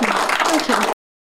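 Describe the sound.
A short, dense burst of audience applause fills under a second, loud and steady with a mix of crowd voices, then stops abruptly into silence.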